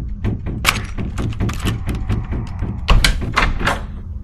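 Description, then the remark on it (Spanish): A door being shaken and rattled in its frame, in a room with a cross, a pulpit and a small altar. Repeated rapid knocks and clattering thumps run over about four seconds, with one heavier jolt near the end, fairly loud. “Además de la cruz, había un púlpito, un pequeño altar y la puerta que no dejaban de sacudir.”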